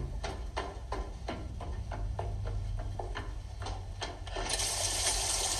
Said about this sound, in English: You can't leave. It's raining.